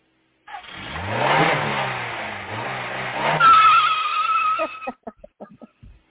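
A car engine roars and accelerates, a high tire squeal rising over it as the car speeds off, before the sound cuts off into a few short sputtering bursts. No one speaks.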